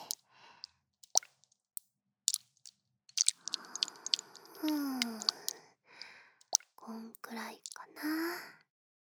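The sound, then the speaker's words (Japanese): Wet squishing of soft, cold water putty being warmed in a palm: sticky clicks and pops at first, then longer squelchy kneading sounds in irregular bursts, intimate and quiet. “まずは自己水パテのひらに。ひんやりしすぎんよ、温めて。”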